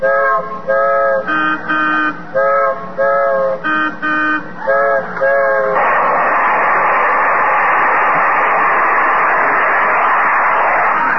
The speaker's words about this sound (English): I'm coming to a railroad crossing. Slow down. I hear the train coming. Oh, I'll make it.